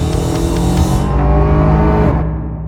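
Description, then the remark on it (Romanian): An Opel Insignia GSI Grand Sport car engine runs loud, its steady deep drone holding with rising harmonics like gentle revving, then the tone fades slightly at the end; no one speaks. “Uite, cam așa îi suna motorul în test.”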